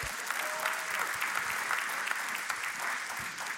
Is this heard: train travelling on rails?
no